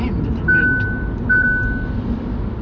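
Two steady electronic driver-attention warning tones, sounded by the car when the driver is distracted from the road, each about half a second to a second long, one after the other over the low rumble of the moving car's engine and road noise.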